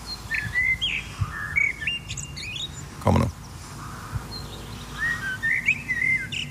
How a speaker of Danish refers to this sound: Det er en solsort, det her. Skulle man ikke tro. Så dumt. Jeg har faktisk solsorten her. Men det er jo ikke en morgensolsort, kan man høre. Det er lidt senere på dagen.